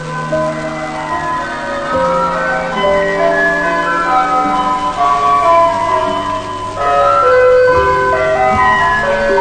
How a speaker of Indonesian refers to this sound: Waktu pun berlalu. Terdengar bel istirahat.